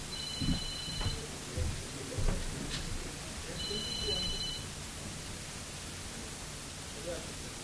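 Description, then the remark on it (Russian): A telephone rings twice, each shrill electronic trill lasting about a second with a pause between, over steady background hiss and a few soft low thumps. “Я подойду к телефону, ладно?”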